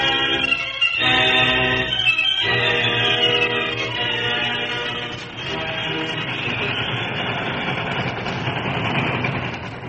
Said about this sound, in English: The train for Flat Rock was speeding through the rolling hill that lay to the west of town. Striving to make up lost time, the train raced on, scarcely slowing down for the dangerous curve that marked its course.